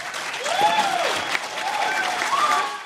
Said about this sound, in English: The crowd is standing and cheering at his actions. Most of the crowd are Iraq, Afghanistan, Persian Gulf War, and Vietnam era veterans.